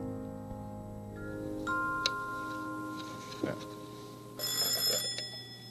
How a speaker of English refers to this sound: There's the doorbell.